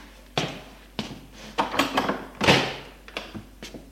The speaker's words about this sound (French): Il est chez lui, l'on sonne à la porte. Il va ouvrir.